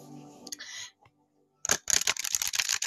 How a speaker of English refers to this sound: But yeah, so I got one more deck, you guys. I'm shuffling them now.